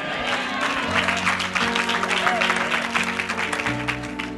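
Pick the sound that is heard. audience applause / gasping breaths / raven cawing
audience applause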